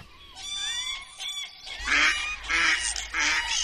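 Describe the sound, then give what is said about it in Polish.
A starling mimics other birds: thin whistled notes first, then three loud, harsh, honking calls like geese or ducks, repeated in quick succession with no one speaking. “Takie nagrania szpaka, w którym da się usłyszeć myszołowa, da się usłyszeć kury, da się usłyszeć żurawie, krzyżówki i jeszcze parę innych gatunków.”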